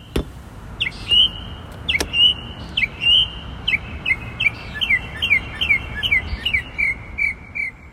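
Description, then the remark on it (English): A bird calls in a quick series of sharp, high chirps repeated over several seconds, fairly close and clear above a steady rushing background noise, with no one talking. “She thinks this might be a parrot.”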